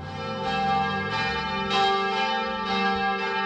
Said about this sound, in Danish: Kirkeklokkerne bimler hver eneste søndag i hele landet, for kristendommen spiller stadig en stor rolle i Danmark.